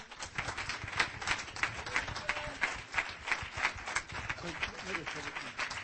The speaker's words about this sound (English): So why don't we give him a clap of welcome.